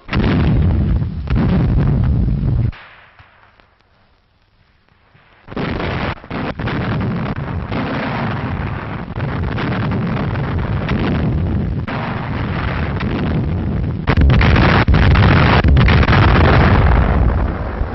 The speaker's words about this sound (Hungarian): Budapest védelmére erős páncélos kötelékek vonulnak fel. Honvédeink német bajtársaikkal együtt hősiesen védik a magyar fővárost. A távolban ellenséges páncélosok tűntek fel, és azonnal tűz alá veszik azokat.